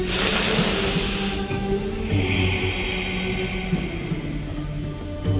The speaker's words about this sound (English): Take a deep breath. On exhale through the nose.